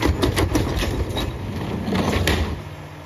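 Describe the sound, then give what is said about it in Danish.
A garbage truck empties a bin: a steady low engine rumble with repeated metallic clanks and scraping bangs, loud, easing off near the end. No one speaks. “Det er nemlig lyden af en skraldebil, der tømmer en skraldespand.”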